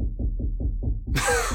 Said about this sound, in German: Hier wird gerade geklopft, gehämmert. Ich weiß es nicht. Ja, kann man machen, so abends um 21 Uhr.